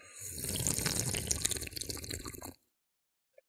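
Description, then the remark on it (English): A long, loud, deliberately exaggerated slurping first sip of a fizzy drink lasting a couple of seconds, wet and hissy, then abrupt silence broken by one faint click. “Here goes the first sip.”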